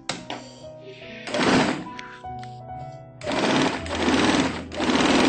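A sewing machine stitches a fabric strip for the first paper ring in short bursts, its rapid mechanical stitching buzzing loudly, pausing with soft clicks and thunks in between before starting up again for a longer run.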